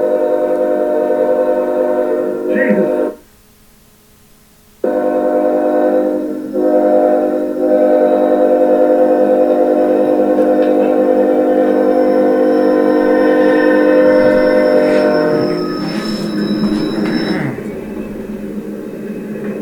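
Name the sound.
train passing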